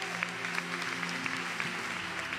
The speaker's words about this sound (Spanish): Le damos un fuerte aplauso al Rey de Gloria.